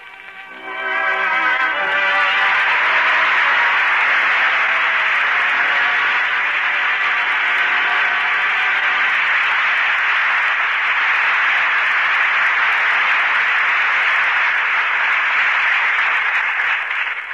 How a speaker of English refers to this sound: That applause invites the return of the two artists who gave such distinguished performances tonight.